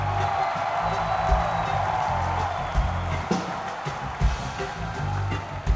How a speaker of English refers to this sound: We want to thank … for being with us, but we can only do that if you guys applaud for him